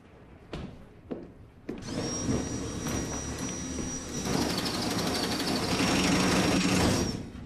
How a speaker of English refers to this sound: Feathers are flying in the room outside as Burnham drills through the pillow.